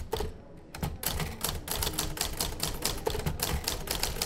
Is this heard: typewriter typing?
yes